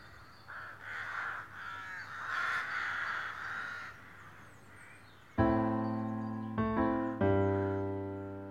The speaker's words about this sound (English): So, and the crows just sound a bit fitting at this point.